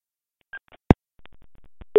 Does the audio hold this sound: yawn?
no